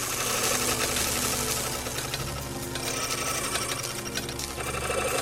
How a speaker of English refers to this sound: Keys being cut with a spray of blue and white sparks.